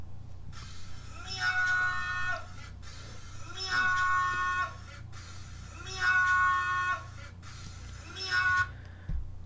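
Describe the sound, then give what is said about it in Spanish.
A man loudly shouts drawn-out meows at an egg in imitation of a cat, four long calls in a steady, evenly spaced rhythm over a constant low background hum. “Estoy triste y quiero que me pongas el audio del hombre que le grita miau a un huevo durante una hora.”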